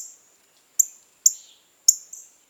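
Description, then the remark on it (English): A female northern cardinal at a feeder, plucking a black oil sunflower seed, gives four sharp, high metallic chip notes, spaced irregularly with short pauses between them, fairly clear, with no voices present. “A female northern cardinal plucks a black oil sunflower seed from a feeder.”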